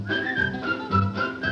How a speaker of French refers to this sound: Reprenez courage en attaquant ce refrain. Sifflez en travaillant,